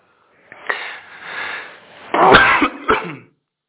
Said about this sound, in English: I'm so upset by that fact, I'm still coughing.